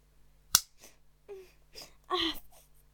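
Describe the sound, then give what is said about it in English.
A single sharp, loud slap to the face cracks out, followed by a few strained, pained vocal gasps and a whimpering cry. “Nobody has ever slapped my face before.”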